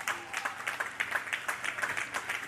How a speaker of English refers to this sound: I'll wait for your clapping.